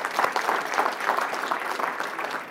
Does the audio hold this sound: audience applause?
yes